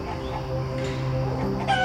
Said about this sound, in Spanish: Imagina cómo la gallina y el gallo comparten su sabiduría contigo mientras interactúas con ellos observándolos de cerca o convirtiéndote en alguno de ellos, como tú prefieras.